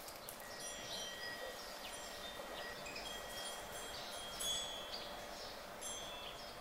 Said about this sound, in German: Im Innenhof des Klosters, umgeben von dicken Mauern, singen dutzende Vögel.